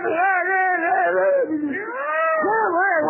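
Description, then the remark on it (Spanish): Cats in heat, seven females and a tomcat, yowl loudly in one continuous, drawn-out wail whose pitch rises and falls, with brief swoops near the end. No one speaks. “Tenían 7 gatas en celo, y el gato largó.”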